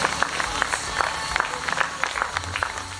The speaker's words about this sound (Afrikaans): Jy moet verstaan, as jy die hande klap hoor, hoor die hemel jou hande klap. Hy hoor jou oorwinning. Hy hoor jou deurbraak, hy hoor vanmorgen dat jy genees is. Die hemel hoor vanmorgen as jy hande klap, hoor jou dat jy vanmorgen genees is.